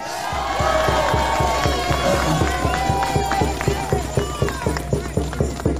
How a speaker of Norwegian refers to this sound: Fantastisk å se så mange frihetselskende mennesker samlet her i dag. Gi deg selv en stor applaus, for dere er helter alle sammen.